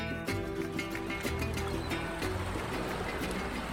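A boat crossing the Atlantic Ocean, carrying jute sacks of Chuao cocoa beans to Europe: a steady, loud engine drone with churning, rushing water throughout, continuous, with no talking.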